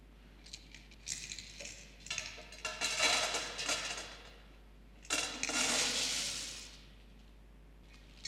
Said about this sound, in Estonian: Aga kui me proovime uuesti seda purki täita, niimoodi, et me seame kõige tähtsamad asjad esikohale.